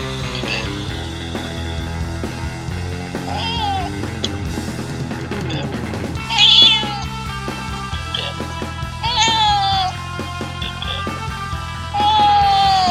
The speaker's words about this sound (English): Alright, well, I want to say meow, or actually the cats want to say meow because they're better at it than I am, including Bit-Bit like this.